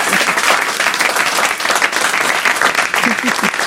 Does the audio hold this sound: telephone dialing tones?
no